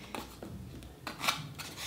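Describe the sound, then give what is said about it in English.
Scissors snip through paper several times at an uneven pace while someone opens a package, each cut a crisp rustling crunch, with no one talking. “Okay, let's try and cut it on random places.”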